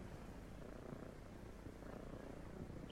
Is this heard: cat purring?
yes